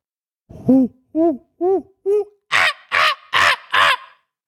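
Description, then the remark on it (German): A voice imitates a monkey: four hooting, rising calls followed by four louder, harsher shrieks, delivered in a steady rhythm with no other sounds. “Aber ich bin mir ziemlich sicher, es soll ein Affe sein. Ja, das ist ein Affe.”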